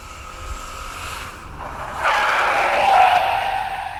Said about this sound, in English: Cherry heard the growl of an engine, and still trying to get her breath back properly, she followed Miss Marple along the lane at a brisk trot, ducking behind a fence just as the first car came skidding to a stop outside the now burning house.